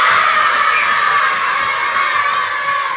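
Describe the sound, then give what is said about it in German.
A group of kindergarten children, at the end of a Frog Prince fairy-tale show, loudly croak like the Frog King together, a dense, continuous chorus of high voices that stays strong and steady for the full three seconds. “Und die Kinder dürfen noch mal so richtig laut quaken wie der Froschkönig.”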